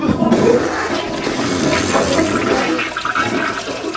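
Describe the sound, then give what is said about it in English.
A toilet flushes loudly, a steady rushing, gurgling roar of water that fills the whole few seconds without any voices. “At least it was still flushing at that time, which is great news.”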